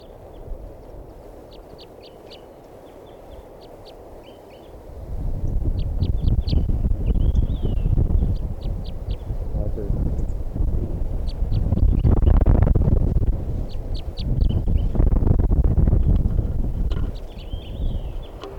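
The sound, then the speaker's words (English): A wild yellow male bird, not yet caught and coming back to a net where its flock mates were caught, calls repeatedly in quick clusters of short, high chirps, continuing throughout while a loud, rumbling wind noise rises after the first few seconds and partly buries them. “I'm gonna record that one bird that's not caught yet.”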